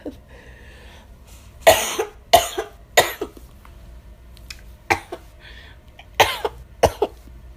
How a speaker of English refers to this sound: I know my cough is terrible.